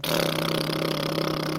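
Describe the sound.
Lips buzz into a small brass-instrument mouthpiece, demonstrating how brass instruments are played, making a steady, raspy, low-pitched drone with rich harmonics. It holds one pitch at an even loudness for over a second, with no voices.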